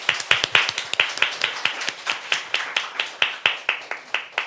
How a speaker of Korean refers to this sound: 박수로 맞아주세요.